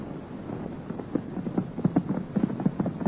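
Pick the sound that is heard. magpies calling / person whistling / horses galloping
horses galloping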